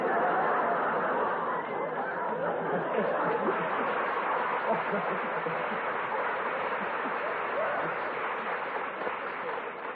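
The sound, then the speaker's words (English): A large audience applauds steadily for the full stretch, a dense, even wash of clapping blended with crowd murmur and scattered laughter, loud and unbroken, fading slightly at the very end. “Gee, judging by that applause, you'll all be investigated in the morning.”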